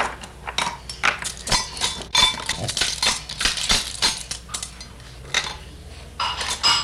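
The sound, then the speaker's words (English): A bunch of keys jingles and clinks, with bright metallic rattles coming in quick irregular bursts for several seconds as they are shaken and handled. “Could you give me the keys now?”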